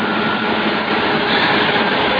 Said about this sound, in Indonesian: Aku pun menyalakan lagi turbinnya. Dan ternyata mesin berjalan sempurna dan saringannya tidak terlepas oleh arus oli yang lumayan kencang itu.